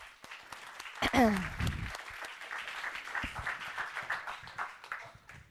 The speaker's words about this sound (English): By the way, do you know why we applaud before she comes up? Send light. Greater than what she says and what she shares is that she's raised her hand. That's what we acknowledge, is that she raised her hand. And that takes courage.